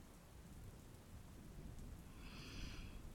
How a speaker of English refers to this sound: I'm listening to the rain.